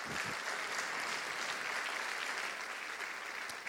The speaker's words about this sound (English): So if we can give her a special round of applause.